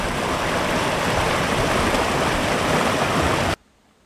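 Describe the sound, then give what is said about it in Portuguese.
A waterfall's rushing water roars loud in a steady, unbroken wash for about three and a half seconds, then cuts off abruptly into near silence. No voices are heard. “Ela veio foi tomar banho na cachoeira, viu?”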